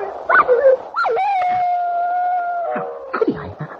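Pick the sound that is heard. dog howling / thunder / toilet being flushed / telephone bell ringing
dog howling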